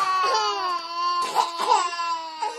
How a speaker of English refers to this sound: Babies crying across the entire plane.